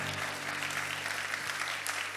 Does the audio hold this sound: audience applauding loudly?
yes